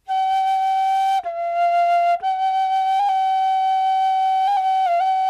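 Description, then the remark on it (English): Loud, clear flute-like bird tones, the first part of the bird's song, held steadily at one mid pitch, with two brief breaks and small upward flicks in the note, ringing out alone without any talking. “And singing consists of two parts. First, some loud flute tones.”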